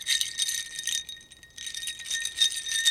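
A strand of Mardi Gras beads, a sound-effects prop, rattles and clinks against a glass, imitating crushed ice in a water glass. A bright, continuous jingle with a faint glassy ring pauses briefly midway, then resumes, with no talking.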